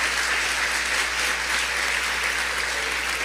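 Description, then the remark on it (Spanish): Sustained audience applause for the actors, a dense wash of many hands clapping at a steady, loud level throughout, with no clear individual claps standing out and no talking. “Denle un aplauso a mis actores increíbles.”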